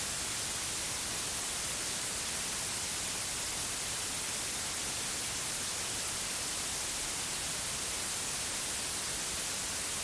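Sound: white noise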